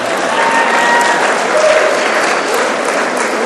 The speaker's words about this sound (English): In that workshop, applaud her, yeah.